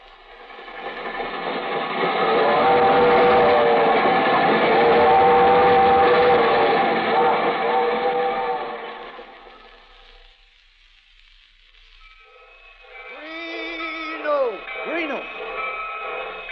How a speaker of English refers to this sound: The Albany Special leaving on track 6.